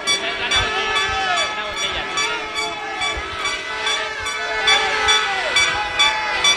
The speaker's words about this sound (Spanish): Pitos para la alcaldesa a su llegada al mercado de Ibiza que hoy visitaba. La culpan de los recortes en los servicios públicos. Botella intenta el diálogo, se acerca a ellos, pero solo recibe más pitidos como respuesta.